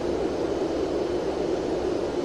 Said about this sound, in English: But, it must be pretty damn cold out here where we're flying over because, 39 degrees. And we can hear that wind, you know, I mean, that's some cold, that's a frigid, you know, weather sound.